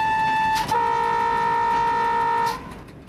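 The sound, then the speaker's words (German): A train approaching on the tracks sounds its horn: a brief blast, then a long, steady, loud tone lasting about two seconds before it cuts off, leaving faint rumbling. No one speaks. “Ein Fuchs, der auf den Gleisen balanciert und sich von dem herannahenden Zug so gar nicht aus der Ruhe bringen lässt.”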